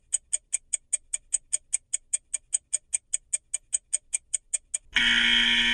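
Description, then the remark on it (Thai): A countdown clock ticks in a fast, steady rhythm, around twenty crisp, high clicks, then a loud, harsh buzzer blares to end it. No one speaks. “ติ๊กตอกติ๊กตอกติ๊กตอก”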